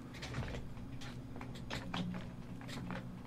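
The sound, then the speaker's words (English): A cord catching and dragging on a chair makes a string of short scrapes and taps over a low steady hum, fairly quiet, with no one talking. “Oh, this darn cord gets caught on my chair, and I can almost strangle myself.”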